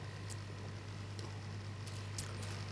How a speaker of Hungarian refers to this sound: De közben figyeljük meg azt is, hogy egyszerre két dolgon legyünk túl, hogy a víznek a szintjét bejelöltem egy fekete jelzéssel, hogy fog-e változni a víznek a szintje, miközben elindul a buborékoltatás.